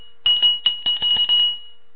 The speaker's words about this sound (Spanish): Déjenme tocar mi campana de nuevo.